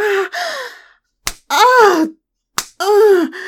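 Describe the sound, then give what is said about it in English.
A person held over someone's knee is spanked: two sharp slaps of a hand on bare skin land about a second apart, each followed by loud, drawn-out vocal moans and gasps. “I've never had anyone put me over their knee and slap me.”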